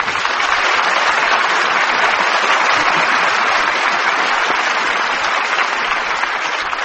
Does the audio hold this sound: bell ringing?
no